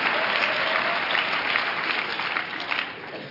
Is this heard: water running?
no